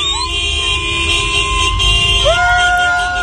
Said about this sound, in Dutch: Mensen rijden er toeterend door de straten en zwaaien met vlaggen.